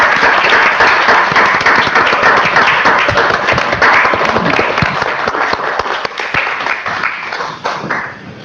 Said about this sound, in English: We're happy and we're sad, but I think a round of applause for Chief Ritchie is certainly well deserved.